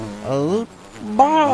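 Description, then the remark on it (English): Two loud insect-like buzzes, each lasting about half a second with a bending, rising pitch, separated by a short quiet gap. “buzz. All right, I got a couple things I want to buzz about.”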